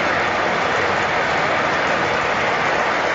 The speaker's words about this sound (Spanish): La tira, mira, el aplauso. El aplauso que suena por megafonía. El aplauso infinito.